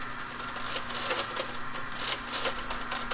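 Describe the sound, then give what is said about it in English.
A typesetting machine keyboard clatters steadily as the operator uses all fingers to set the first line into type, a word at a time, with a dense run of quick mechanical key clicks and taps over a constant low machine hum, and no voices. “Observe that I am now setting into type the first line.”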